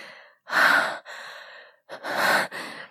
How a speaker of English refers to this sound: I'm gasping for air as your hot cum drips down my chin and my neck.